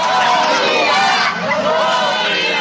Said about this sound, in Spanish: video colgado en las redes sociales se recoge el momento en que vecinos del barrio de Santo Suárez en La Habana protestaron cuando la policía confiscó productos agrícolas a carretilleros y gritaban comida, comida.